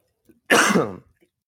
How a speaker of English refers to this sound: Oh, stop coughing like you're dying. Just to buy time.